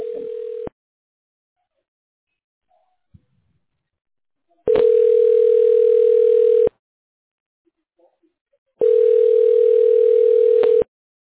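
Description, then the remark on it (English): A telephone ringback tone as a call is being connected to another party: a steady, mid-pitched buzzing tone sounding in loud two-second bursts separated by long silent gaps, three times with no one speaking. “Okay, we're getting connected with...”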